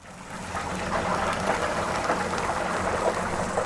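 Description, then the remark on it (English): Chicken coated in a batter of secret spices sizzles in frying oil at the Mr. Big Stuff Eatery, a restaurant in inner-city Johannesburg, South Africa: a steady, dense crackling hiss with tiny popping bursts that holds at an even loudness throughout, with no voices. “Chicken coated in a batter of secret spices sizzles in oil.”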